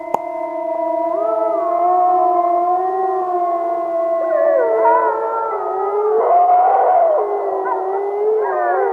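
Several wolves howl together in a long, overlapping chorus, their sustained tones rising and falling steadily for the whole stretch, loud and clear with no talking.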